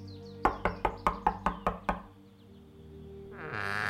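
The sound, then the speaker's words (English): Eight sharp, evenly spaced knocks on a wooden farmhouse door in a small farming village, fairly loud, followed by a quiet pause and a rising hiss of background noise. “A scared-looking woman answered the door.”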